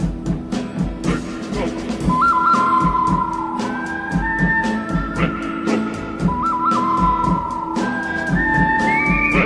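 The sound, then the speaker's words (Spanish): A whistling artist whistles a clear, sustained melody with sliding notes, riding over a loud backing band with a steady, driving percussive beat. “… interpreta todo tipo de canciones por medio de silbidos, pero su fuerte son aquellas melodías que escuchábamos en los famosos Spaghetti Western, películas italianas que trataban de indios y vaqueros.”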